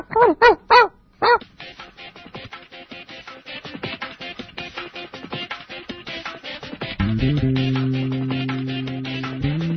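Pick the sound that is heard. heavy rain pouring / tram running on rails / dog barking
dog barking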